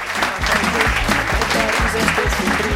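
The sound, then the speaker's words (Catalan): Steady, dense applause dedicated to a radio show's listeners, many hands clapping continuously at an even loudness for a few seconds, with a faint low murmur of voices or music underneath. “Aquest aplaudiment és per vosaltres, que cada dia en som més, i també a les xarxes veiem que cada dia en seguiu més persones.”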